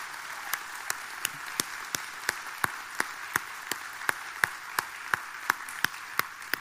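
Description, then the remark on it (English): A church audience applauds on Memorial Day for military service members and their families. A bed of steady clapping sits under a sharp, evenly spaced clap about three times a second that keeps a regular rhythm throughout. Nobody speaks. “And I think, church, it would be appropriate here for us to give them a hand clap for their service.”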